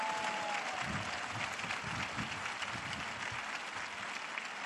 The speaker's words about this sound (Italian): Una benedizione particolare per tutte le donne presenti in piazza. Un applauso alle donne, se lo meritano.